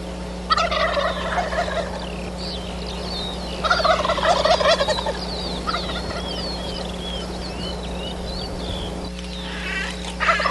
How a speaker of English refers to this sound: I've got a roost set up. I want you to hear what it sounds like at about 6,000 feet on the side of Mount Mauna Kea when the turkeys wake up on a little setup from a hunt out there.